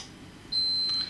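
A single high-pitched electronic beep, steady and about half a second long, from a smart switch turning on a toy room fan, with faint low background hum; no one speaks.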